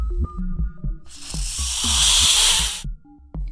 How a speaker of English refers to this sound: I had to find out if all snakes hiss. Turns out most snakes hiss. However, the larger ones, well, most snakes have the ability to hiss, but the larger ones are more likely to hiss. The smaller ones not.